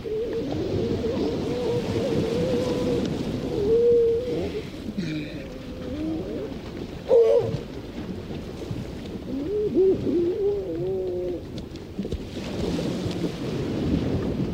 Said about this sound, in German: Mit einem Mikrofon und Aufnahmegerät geht er auf Geräuschfang, etwa auf Helgoland. Dort verbrachte er mehrere Wochen, um den Sound der Nordseeinsel aufzunehmen. Das Meer, den Wind und die Tiere, wie zum Beispiel diese Kegelrobbe.